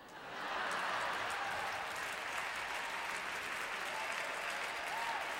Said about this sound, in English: No, don't clap too long, you'll forget your part.